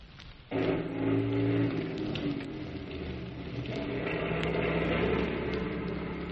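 A 6x6 army truck engine kicks in after a brief pause and runs on with a steady, loud, low rumble and a rough mechanical drone as the truck runs down a row of tents, no voices.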